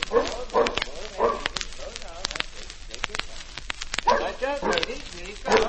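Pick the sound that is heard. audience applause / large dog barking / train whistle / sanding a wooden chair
large dog barking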